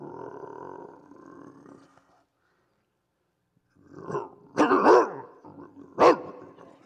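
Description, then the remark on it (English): A large wild hog in the woods, protecting other hogs, growls deeply: a low, steady rumble, a brief pause, then several loud, harsh grunting bursts with no one speaking. “Now, I was trying to get to my stand, and I'm got to go through him, and he's obviously protecting some other hogs.”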